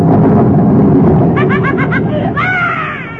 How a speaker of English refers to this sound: I started to laugh, but the thunder scared me. Well, go to sleep and you won't hear it.